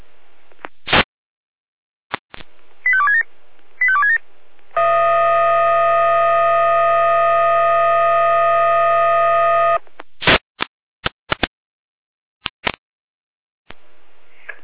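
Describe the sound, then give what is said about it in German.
Fire brigade radio alarm alert tones before a call-out of Florian Albersdorf, Florian Bobeck and Florian Waldeck for a tree on the roadway: a few sharp radio clicks and two quick chirping tone bursts, then a loud, steady electronic tone held for about five seconds, followed by more scattered clicks. “Hier haben wir Alarm.”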